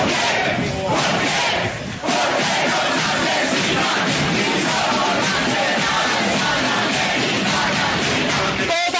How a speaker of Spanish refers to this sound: Y por eso, porque su trabajo político era admirado, algunos jóvenes salieron a pedir justicia, a protestar y a gritar por su asesinato.